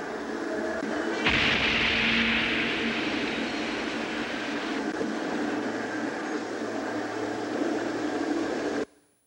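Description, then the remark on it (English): A car bomb explosion in the Middle East conflict bursts out suddenly after a second of low rumbling, followed by a long, harsh roar of noise that hangs on for several seconds before cutting off abruptly. “A frightening new weapon had been introduced into the Middle East conflict, the car bomber, as dedicated as any kamikaze pilot, even allowing his comrades to film his own immolation.”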